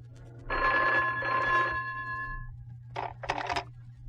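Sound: telephone ringing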